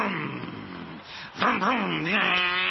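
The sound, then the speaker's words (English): A 38-year-old man's voice imitates a car engine for his 2-year-old son, a buzzing, growly drone whose pitch wobbles up and down, dipping briefly before surging back louder for the last second. “That's the sound cars make.”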